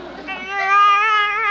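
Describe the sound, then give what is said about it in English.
A single sustained cry from a baby inside a car, a high, strained wail that swells louder midway and holds steady, clear with no talking over it. “A baby! Hey, what are you doing in my car?”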